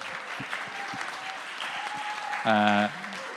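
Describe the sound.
A crowd applauds with steady, dense clapping for several seconds, and a short voiced cheer rises briefly over the clapping near the end.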